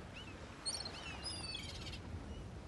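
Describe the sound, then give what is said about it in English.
Faint calls of two seagulls at a cold, windy beach over a steady windy rush. A few thin, high cries and squeals overlap in the first second and a half, then fade, leaving only the breezy background. “Kip saw two seagulls.”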